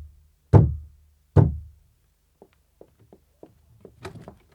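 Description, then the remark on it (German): Two heavy, booming knocks on a small door at a neighbour's, about a second apart, each ringing out briefly, followed by a few faint scattered taps and rustles. “da klopfe ich mal an.”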